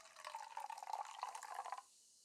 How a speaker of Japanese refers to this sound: まだお酒を飲めないあなたにはこれ、コーラです。グラスもキンキンに冷やしておきましたから。よいしょ。さあさあさあさあ、一杯一杯注ぎますね。あなたにもコーラを。